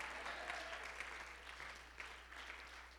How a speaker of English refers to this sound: Somebody clap your hands and say amen.